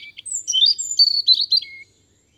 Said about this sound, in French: Regarde, là-haut. Qu'est-ce qu'il y a ? Il y a un rouge-gorge.